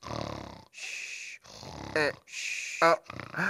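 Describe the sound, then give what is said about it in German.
A voice imitates snoring: several rasping, breathy snores in a steady rhythm, each drawn-out inhale broken by short throaty, voiced snorts. “Jetzt wird mir alles klar. Ich hab geschnarcht.”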